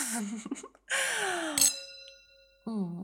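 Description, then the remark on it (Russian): Two glasses of aperitif touch in one bright clink during a toast, then a clear ringing tone hangs and fades over about a second. A voice speaks just before and after. “Ну что, чокнемся?”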